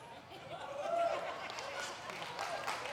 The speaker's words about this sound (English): Why are you clapping? Why are you clapping? Why is that exciting to you?